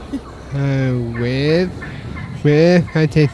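A turkey gobbles: one drawn-out warbling call, then a loud burst of rapid, choppy gobbles after a short pause, with no talking.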